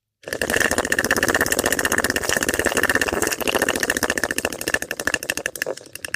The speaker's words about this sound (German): Und hier ist es auch wichtig, ganz wieder verlängert auszuatmen, ne? Damit sich die Bronchien auch wieder gut weiten.